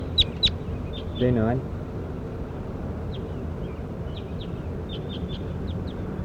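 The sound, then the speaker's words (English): A bird, J9, being recorded, gives sharp, high chirps: two quick notes, a brief buzzy call, then a run of short repeated peeps over a steady low rumble of background noise. “Start recording bird J9.”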